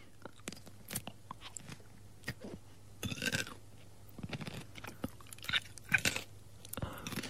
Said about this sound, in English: you're pimping me out by making me eat a pickle on air